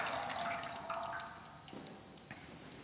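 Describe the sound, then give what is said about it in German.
A little water from the Jordan pours in a steady, gentle stream into a baptismal font at a baptism, with a few soft splashes and drips near the end. It is fairly quiet, and no one speaks. “Und ganz zum Schluss, weniger heisst nicht weniger wichtig, traditionsgemäss ein bisschen Wasser aus dem Jordan, dort, wo alles angefangen hat mit der Taufe.”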